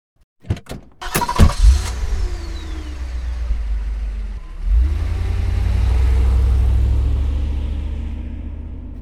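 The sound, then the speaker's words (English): The doors of Mr. Brewster's car thump shut a few times, then its engine turns over and settles into a low rumble that swells as the car pulls away, leaving for a competition, with no voices. “Molly and her mum get into Mr. Brewster's car and they leave for the competition.”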